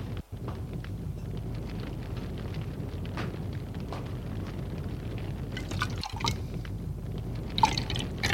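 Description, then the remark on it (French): Bourbon pours steadily into a glass at a bar for several seconds, a continuous gurgling trickle with a few small drips and clinks near the end. No one speaks. “Pendant ce temps, Pierre va au bar se prendre un bourbon.”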